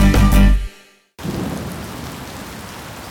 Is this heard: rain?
yes